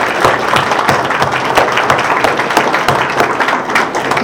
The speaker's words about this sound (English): Would you just give them a round of applause for caring for us?